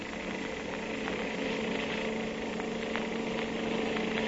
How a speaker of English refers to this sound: I'll have to step on it. Here we go. Ah, this motorcycle can certainly travel.